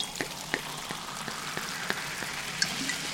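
Champagne pours into glasses with a steady fizzing hiss, scattered with small sharp crackles and pops of bubbles. It stays fairly quiet and even throughout, with no one speaking.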